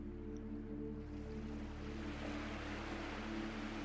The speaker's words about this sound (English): In the background, you can hear the gentle sounds of the waves lapping at the shore in a steady rhythm. So very soothing, so relaxing,